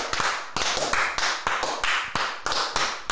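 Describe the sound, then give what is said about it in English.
A loud round of applause, dense crackling claps surging in steady pulses about twice a second, continuous with no voices over it. “Come on, welcome. A round of applause.”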